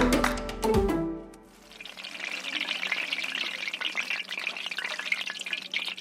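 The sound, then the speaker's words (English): A few soft plops and clatters as pale yellow balls of dough drop into a pan of hot fat, quickly giving way to a steady, crackling sizzle as mandazi, East African donuts, deep fry, with no voices. “drops pale yellow balls of dough into a sizzling pan of fat.”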